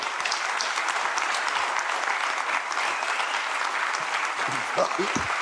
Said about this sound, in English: What a fantastic hour and 20 minutes that's been listening to all that. And I want you to join me to give these two a fantastic round of applause.